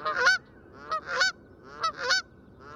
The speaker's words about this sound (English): If species look similar, could they have different voices, like the Canada goose's brassy honks?